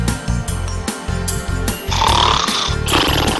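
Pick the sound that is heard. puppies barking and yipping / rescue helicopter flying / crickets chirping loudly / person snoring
person snoring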